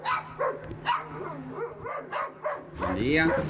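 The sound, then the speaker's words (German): Several dogs bark in quick repeated bursts, loud, ending with higher-pitched yips and whines, with some voices mixed in underneath, as survey takers make their way past them to the residents' front door. “Und manche müssen sich dafür erst einmal an bellenden Hunden vorbei zur Haustür der Bewohnerinnen kämpfen.”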